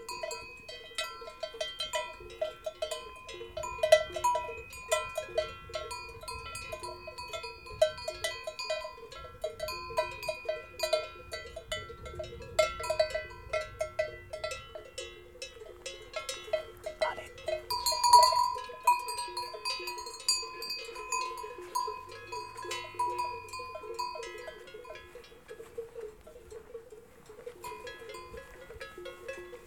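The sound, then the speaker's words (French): Many animal bells clank and jingle continuously, an irregular overlapping tinkling of herds of horses, cows, ewes and sheep grazing together on the Beorlegi plateau, with no voices. “Ici se côtoient des chevaux, des vaches, des brebis, des moutons.”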